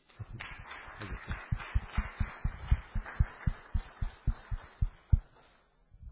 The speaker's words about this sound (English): Should we give him a ripple of applause?